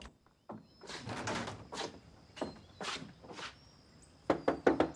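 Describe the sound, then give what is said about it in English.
On the veranda of a house, a man rattles the door handle and jostles the door in a series of noisy bursts, then knocks three quick, sharp times on a window, fairly loud. “He tries the door, then knocks on a window.”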